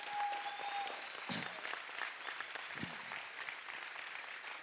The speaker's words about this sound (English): Come on, can we give these people a great round of applause? Come on.